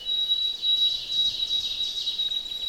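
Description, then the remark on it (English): A clear, high whistled bird song of white-throated sparrow notes, held steady and long with brief breaks between them, moderately loud over a soft, diffuse background hiss. “And white-throated sparrows are very common up here.”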